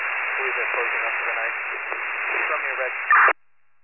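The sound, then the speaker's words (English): Radio static hisses steadily for about three seconds in a thin, tinny band, with an unintelligible voice buried in the noise, then a brief louder burst before it cuts to silence. “You're all static.”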